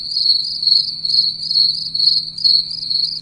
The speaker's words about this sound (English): All right, so now let's click crickets.